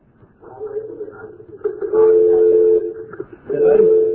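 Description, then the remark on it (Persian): Television sound carries over a caller's phone line during a call-in broadcast: muffled, indistinct voices with sustained humming tones, fairly loud but thin and boxy, as if picked up from the room around the caller. “بفرمایید صدای تلویزیون رو لطف کنید کم کنید، با تلفن باهاش صحبت کنید.”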